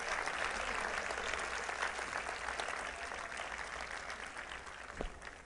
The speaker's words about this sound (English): So here's what I want you to do. I want you to say thank you to these 41 people and give them a hand clap. Thank you all.